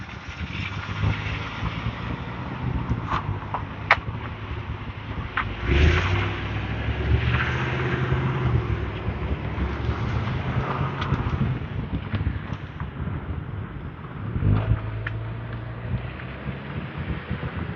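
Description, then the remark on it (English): Three cars idle, blocking the way, with a steady low engine rumble that swells slightly as one moves, mixed with wind buffeting the microphone and a few scattered knocks. No one speaks. “Three cars, all blocking my way.”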